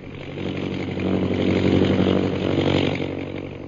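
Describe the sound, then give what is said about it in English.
A steady, rumbling engine drone of an airplane flying high overhead into the northwest over jungle, with a buzzing, harmonic tone that swells louder through the middle and eases slightly toward the end, with no voices. “High overhead, an airplane bearing Myra Trent flies into the northwest, and Myra, glasses in hand, searches the jungles beneath her.”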